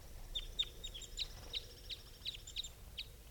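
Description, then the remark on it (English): A quick series of high, thin chirping calls from two caged birds, around ten short notes repeating at an uneven rhythm, with no voices over a soft low rumble. “And these are the calls of these two.”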